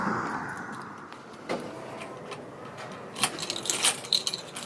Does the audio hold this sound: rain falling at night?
no